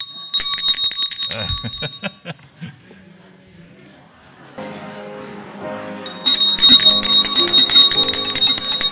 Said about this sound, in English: I'm going to ring the bell. We'll have some time of fellowship, and then I'll ring it again, and you'll have to sit back down.